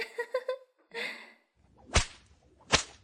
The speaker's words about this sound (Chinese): 哼，现在解开他的笼子，让他在公园里光着屁股爬，用鞭子打他，你瞧，他的鸡巴梆梆硬呢。